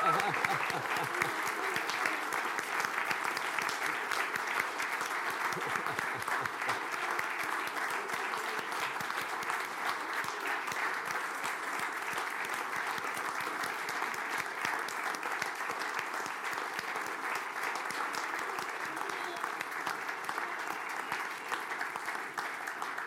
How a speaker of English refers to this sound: So can we just give them a really appreciative round of applause?